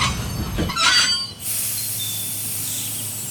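A safari park train rumbles and clatters briefly, then a sustained high-pitched brake squeal and hiss take over as it slows to stop for a zebra crossing, steady, with no voices.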